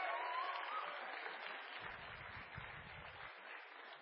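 An audience claps steadily for several seconds, a dense crackling wash of applause at moderate volume that fades slightly toward the end, with a brief whistle near the start.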